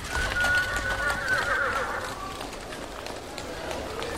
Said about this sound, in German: Schon bevor die ersten Autos gebaut wurden, herrschte in den Straßen der großen Städte lebhafter Verkehr. Viele Pferdefuhrwerke, Pferdeomnibusse und Droschken waren unterwegs.